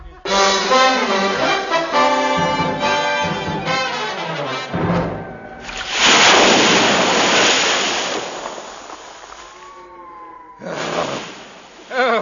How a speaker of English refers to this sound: Oh, I've never had it as bad as this before. Oh, dear. Oh, the wind must be 40 knots at least.